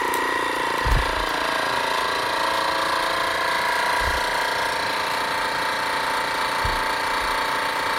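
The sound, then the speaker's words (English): A vacuum sealer's pump drones steadily as it sucks the oxygen out before sealing the end, a buzzing mechanical whir that holds an even level for several seconds, broken only by a few soft low thumps. “And then, so what it does, it sucks all the oxygen out and then immediately seals the end.”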